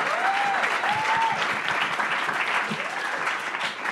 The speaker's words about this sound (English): You can applaud that. The crowd erupts in applause.